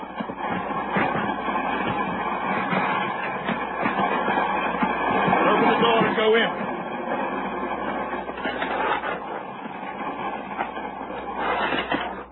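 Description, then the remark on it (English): Steady rumbling and rattling of passenger train coaches rolling over rails, with a continuous clattering texture and occasional metallic clanks throughout; a brief spoken line passes over the noise. “Man could get killed between the coaches.”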